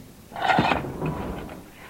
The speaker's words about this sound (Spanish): Se dirige a su automóvil, abre la puerta del conductor y enciende los faros. Cierra la puerta y abre el maletero.